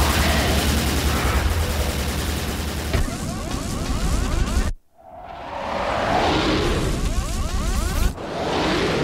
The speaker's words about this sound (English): The cannons ain't doing jack! I can't shake him!